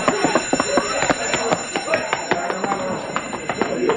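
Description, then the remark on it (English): An alarm bell, set off when someone stepped on it, rings loudly and continuously, its clapper striking in a rapid, rattling stream of metallic hits that fills the whole scene without pause. “Hey, you stepped on the alarm.”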